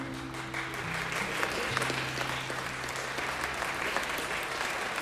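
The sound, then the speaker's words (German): Sustained, dense applause from a large audience in a school hall after a stage performance of singing and dancing, steady and energetic throughout, with low sustained tones lingering underneath at the start. “Das Publikum in der Schulaula erlebte einen Traum aus Gesang und Tanz auf der Bühne und applaudierte schließlich begeistert.”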